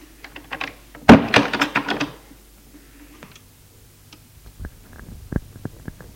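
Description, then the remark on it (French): A loud sharp knock on a door and a quick burst of rattling thumps as the door is opened and someone enters, followed by quieter scattered clicks and a soft latch as it shuts. No one speaks. “Frappe à une porte. L'ouvre et rentre Gilles et ferme la porte.”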